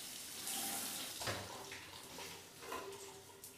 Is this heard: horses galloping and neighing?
no